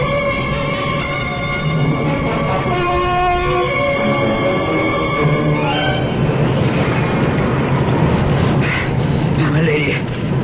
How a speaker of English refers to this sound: The ship capsized, and then I don't remember going into the water.